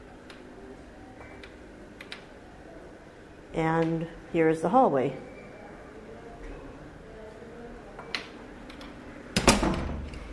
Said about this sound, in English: And to open the door, you simply pull a lever, which is on the lock, and the door opens.